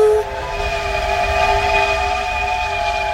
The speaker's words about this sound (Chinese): 而在朦胧当中，他似乎听到火车响亮的鸣笛声，嘟嘟。